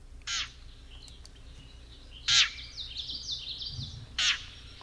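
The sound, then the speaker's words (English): A yellow-breasted chat gives three harsh, nasal, cat-like mewing calls spaced about two seconds apart, with fainter high chirps trailing between them over low background noise. “No, it the first one, especially of the chat, really sounds cat-like to me.”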